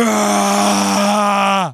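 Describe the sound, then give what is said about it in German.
A voice imitates a powerful wall drill with one loud, steady droning buzz held for nearly two seconds, then sliding down in pitch as it winds to a stop. “Und ein richtiger Wandbohrer macht.”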